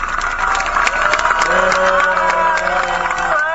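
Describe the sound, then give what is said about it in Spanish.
A crowd cheers and shouts together, with sustained voices rising over a steady wash of applause that fills the whole moment at a loud level. “Un grito fuerte y un aplauso grande, por favor.”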